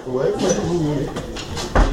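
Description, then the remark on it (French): A person speaks briefly, then a few clattering knocks lead into a solid thump, like a door being pushed shut. “Tu veux fermer la porte ?”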